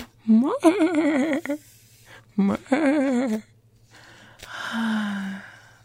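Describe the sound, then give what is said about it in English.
Two quavering, whinny-like calls with a trembling pitch, fairly loud, followed by a breathy, snorting exhale. The calls sound like a human voice imitating a horse's whinny. “Is my horse sounds coming up because he's so nice.”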